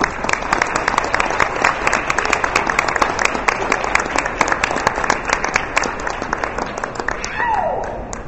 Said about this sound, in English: so let's have one more round of applause for the band.